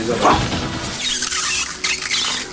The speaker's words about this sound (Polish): Zakręciliśmy wodę, żeby nie kapała nam. Tak jest. Ale boiler hałasuje, czyli woda się grzeje, żeby nie tylko była woda, ale też ciepła woda.